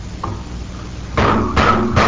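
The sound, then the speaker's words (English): Three solid, evenly spaced knocks on a wooden chair, fairly loud, following a quiet stretch with only a faint low background hum and no talking. “Looks like a chair to me.”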